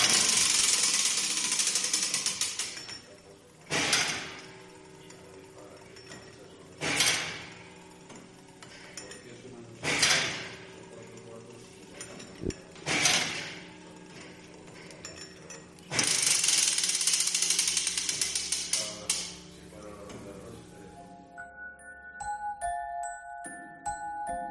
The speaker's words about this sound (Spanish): Pues así suena por dentro el reloj de la Puerta del Sol, ese reloj que tiene un único mecanismo y que tiene cuatro esferas.